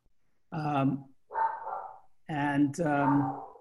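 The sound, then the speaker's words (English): A dog barks four times, loud and tonal with a ringing, drawn-out quality: two separate barks, a brief pause, then two more in quick succession. “I've got to take care of that dog issue.”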